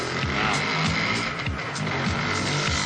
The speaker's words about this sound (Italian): Mette in moto. Per carità. Bam. Occhio che si spegne, non è carburata bene. Ha visto? Rimette in moto.